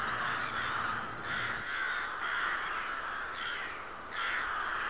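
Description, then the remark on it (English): Several crows caw repeatedly in loud, harsh bursts, overlapping, with a high chirping bird twittering briefly near the start. No one speaks. “Good gracious, the crows certainly have gotten chatty, haven't they?”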